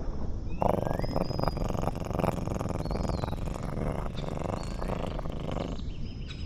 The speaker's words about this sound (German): Wenn man ganz genau hinhört, kann man Kuschelflosse jetzt leise schnurren hören.